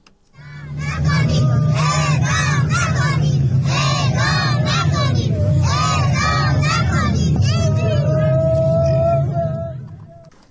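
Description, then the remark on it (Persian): A protest gathering of several hundred relatives of prisoners sentenced to death for ordinary crimes shouts and wails in a dense, continuous roar. Women cry and children shout "don't execute", their high voices rising in repeated anguished cries over a low rumbling hum, fading out near the end. “در ویدئوهایی که از این تجمع منتشر شده صدای گریه برخی زنان حاضر در تجمع شنیده می شود و کودکان نیز فریاد می زنند اعدام نکنید.”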